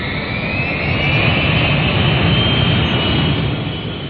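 A powerful vacuum cleaner that has just been fixed runs steadily, a loud, continuous whooshing roar with a high whine riding on top, holding an even level throughout with no voices.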